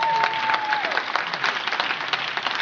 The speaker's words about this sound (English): Give Heather a big hand clap.